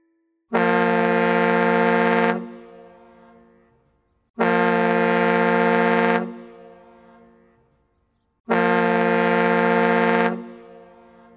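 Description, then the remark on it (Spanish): A large ship's horn sounds three long, loud blasts at steady intervals, each lasting about two seconds and trailing off into a reverberant echo, with no voices. “El sonido sorpresa de hoy fue el de la bocina de un barco enorme.”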